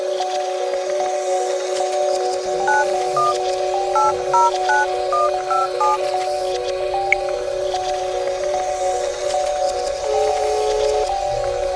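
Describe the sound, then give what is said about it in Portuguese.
A telephone number is dialed: about a dozen short, clear keypad beeps in a quick, uneven run, set over a steady humming dial tone that keeps droning before and after. No one speaks. “Tô te ligando aí, garoa, vê se vai dar certo.”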